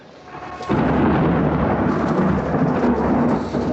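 A deep roll of thunder from an approaching storm swells in after a quiet moment and rumbles on loudly and steadily at night amid lightning and dense clouds, with a faint hiss of rain underneath; no voices.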